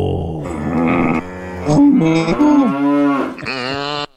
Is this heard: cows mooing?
yes